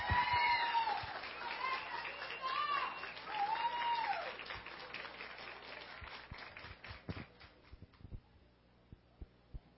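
An audience applauds, a dense burst of clapping with some cheering voices at first, then thinning out into scattered, separate claps before fading away.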